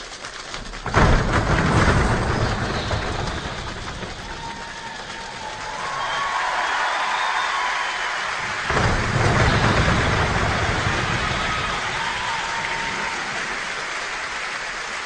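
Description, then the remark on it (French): A choir imitates a rainstorm with a steady, dense patter of clicks and claps, broken by two deep, booming thunder-like swells, with faint sustained sung tones drifting above. “Oui, alors j'ai trouvé, un peu par hasard, mais un enregistrement formidable, c'est le chœur … qui imite la pluie et l'orage.”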